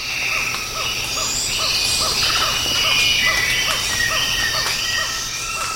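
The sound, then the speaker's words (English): A dense rainforest chorus on the Osa Peninsula, Costa Rica, recorded in April 1989: tree frogs repeat short, regular calls while cicadas hold a steady high buzz, and red-winged parrotlets add scattered high chirps and whistles. The sound is continuous and fairly loud, with no talking. “This audio was taken in April of 1989, and you can hear tree frogs, red-winged parrotlets, and cicadas.”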